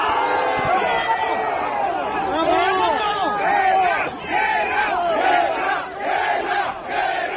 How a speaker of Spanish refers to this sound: Los taxistas a grito coreaban el grito de guerra.